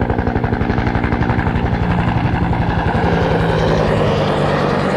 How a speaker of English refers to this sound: There goes another grunt helicopter.